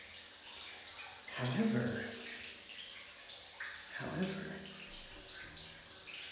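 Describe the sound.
Steady rushing water flows continuously at moderate volume as water is sent through a stick attachment, like a spray from a nozzle, with a voice speaking briefly over it.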